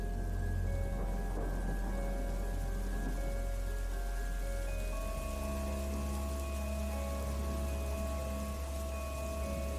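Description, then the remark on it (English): Steady, continuous rainfall at a moderate level on a dark, stormy evening at Flood Meadows in Hampshire, England, with a deep low rumble of thunder underneath throughout. No one speaks. “It's a dark, stormy evening, and I'm walking through Flood Meadows in Hampshire, England, taking a shortcut on my way home.”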